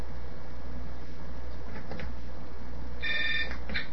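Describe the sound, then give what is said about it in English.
A cell phone rings as someone calls it, a short bright electronic trill near the end over a steady low background rumble, with no one speaking. “Calling up the cell phone again.”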